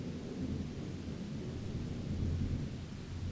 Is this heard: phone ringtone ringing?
no